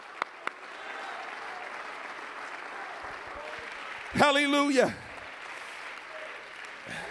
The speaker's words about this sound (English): Hallelujah. Hallelujah. Somebody ought to give the Lord a hand clap of praise right now.